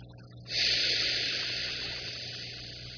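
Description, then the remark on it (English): A slow, deep inhale begins about half a second in and stretches steadily to the end, an airy breath with no talking over it. “But so one arm going down the back of the hand, and then breathing in, it's touching your elbow, then up to stimulate these channels, then.”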